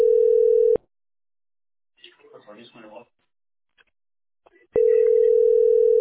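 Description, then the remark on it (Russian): A steady, unbroken telephone dial tone hums at a mid pitch while calling a landline number in St. Petersburg; it cuts off for a few seconds while a muffled voice speaks briefly, then returns just as loud and continuous. “Звоню.”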